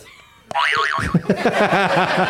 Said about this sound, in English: Buzz your buzzer. Do it properly.